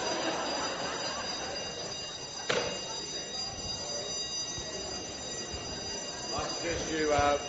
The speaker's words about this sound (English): That's a fire bell. Just quietly move out to the foyer.